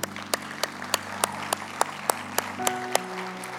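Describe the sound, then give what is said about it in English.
An audience applauds mothers and grandmothers who are standing to be honored, in a steady, even rhythm, with about a dozen sharp claps landing in unison every third of a second over a low sustained hum. “That baby in your belly, that baby in your belly can't applaud you right now, but one day they will, I promise you.”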